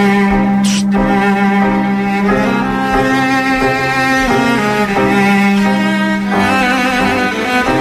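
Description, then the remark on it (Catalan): A classical orchestral piece from a film's music plays steadily and fairly loud, with sustained strings and layered harmonies shifting chord by chord, a brief bright accent near the start, and no voices. “Més elefants, eh? Schubert.”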